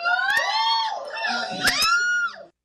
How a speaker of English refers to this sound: By the way, the screeching you heard was from Hinsdale Men. That was actually men from Hinsdale in attendance to that rap session.